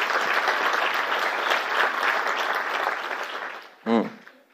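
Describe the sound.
A church audience applauds to honour the past pastors, servants and all who helped build the church, in a steady, dense wash of clapping for several seconds, then it fades and a single voice briefly speaks.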